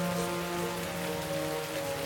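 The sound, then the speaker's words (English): Steady rain pours down, drumming on surfaces in a dense, continuous hiss with low tonal hum beneath; no voices, just the constant wash of a downpour. “started a rainstorm!”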